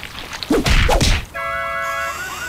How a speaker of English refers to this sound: In one ad, a man tries eating a chicken wing when it suddenly comes to life and begins slapping him in the face.